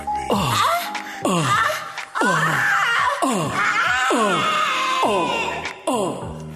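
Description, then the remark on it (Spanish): Several voices let out loud, overlapping exaggerated moans and wails in repeated falling bursts, people imitating sex screams, with bits of laughter mixed in. “O. Gritemos. Yo grito como un grito, como vieja. Una, dos, tres.”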